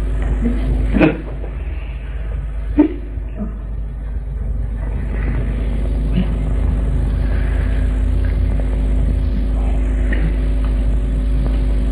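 A car engine rumbles steadily for the whole stretch, a deep continuous drone with a couple of sharp knocks early on and no voices.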